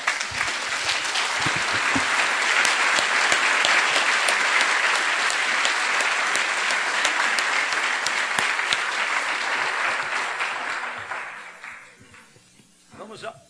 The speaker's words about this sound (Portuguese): Podemos aplaudir esse Deus de amor?